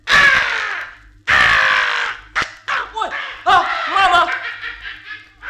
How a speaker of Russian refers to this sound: Ворона! Ворона, она схватила два моих зернышка! Мама, лови ее! Мама, лови! Ой, улетела! Улетела!